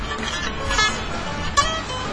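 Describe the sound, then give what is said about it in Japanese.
A bus rumbles past outside amid steady traffic noise, with two brief horn toots, one around the middle and a slightly louder one near the end. “外のあのバスの音が大きくなってるやつだな。”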